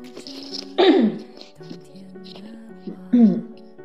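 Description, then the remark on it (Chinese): Two muffled throat clearings by a speaker covering the microphone, about two seconds apart, each a short rough burst. Faint sustained tones hum quietly underneath, with no talking. “不好意思啊，我今天一直在清嗓子，但是我已经捂住那个话筒了。”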